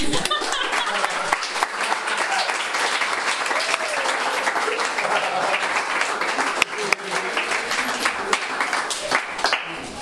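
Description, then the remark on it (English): Sustained audience applause after a speech, a dense wash of many hands clapping steadily and loudly for about ten seconds, with a few brighter individual claps popping out of the crowd noise. “You can clap now.”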